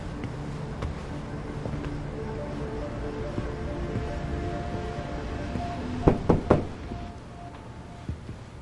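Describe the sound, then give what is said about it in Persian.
A quick burst of three hard knocks on a door cuts through a steady low rumble, followed a moment later by one fainter knock. “در رو باز کن. برای چی اومدی؟ زود باش باز کن تا در رو نشکستم.”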